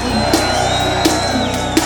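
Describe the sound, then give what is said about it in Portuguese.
A large crowd of men in an audience shouts and roars together on cue, a dense, loud wall of voices sustained throughout, with a few sharper peaks cutting through the noise. “O gritinho das damas e o grito dos vagabundos.”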